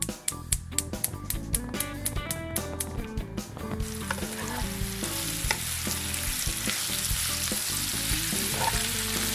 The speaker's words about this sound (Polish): Kurczak nam już się smaży na naszej patelni.